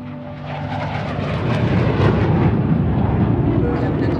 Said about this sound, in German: liebt es, die englischen Hügel unter dem Flugzeug vorbeiziehen zu sehen, wenn es im Landeanflug auf London Heathrow ist.